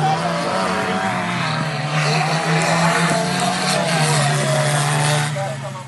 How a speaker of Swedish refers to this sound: Där hörde ni alltså en del av traktorslalom i Hejnum på Gotland.